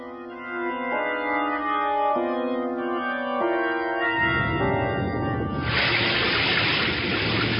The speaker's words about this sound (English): Our radio's out, Stewart. Probably this downpour.